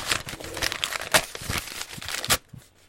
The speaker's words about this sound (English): So that's paper jam.